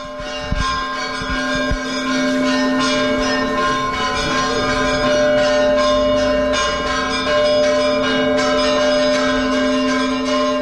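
The church bells of the Svyatogorsky Monastery peal together in a dense, continuous ringing, their overlapping tones sustained and reverberant, struck repeatedly and loudly throughout with no voices present.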